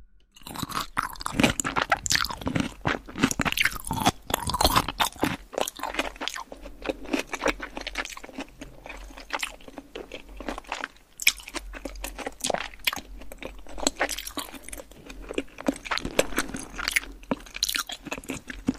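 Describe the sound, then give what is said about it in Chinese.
Steady chewing of a juice-filled egg (爆汁蛋) with sharp, crisp crunches, repeated bites and wet mouth sounds continuing throughout without any talking, loud in a dense, irregular rhythm. “废话少说，继续吃。”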